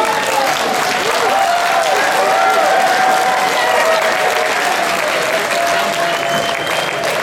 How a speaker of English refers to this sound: I think he wants some more applause, everyone.